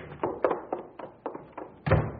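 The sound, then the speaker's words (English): A door being worked open: a quick run of hollow wooden thunks and clunks, finishing with one heavier, louder thud. No voices. “Open the door.”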